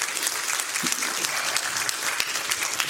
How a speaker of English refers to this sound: Can we give that young man applause?